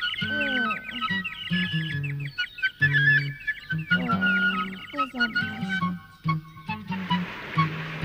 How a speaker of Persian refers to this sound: یه پرنده. خب چرا در میری؟